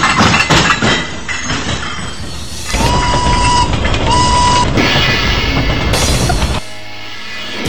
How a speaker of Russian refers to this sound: Работники умельцы прикрутили рельсы и застал вагон. Прибыл на перрон, под колесо башмак